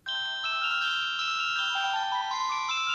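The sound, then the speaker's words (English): A cell phone ringtone plays a bright, synthesized melody in clean sustained tones, steady and fairly loud, heard alone with no talking. “Yes, that's the Pachelbel Canon.”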